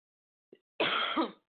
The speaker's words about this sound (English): I have a little bit of a cough today, so I may have to stop like that.